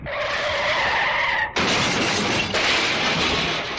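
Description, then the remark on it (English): A car's tires screech in a loud skid for over a second, then a sudden heavy crash bursts in as the car hits a tree, followed by a noisy clatter of crunching and debris with a second jolt; the car's front bumper is slightly dented. “Now, luckily, it's only the front bumper that got slightly dented.”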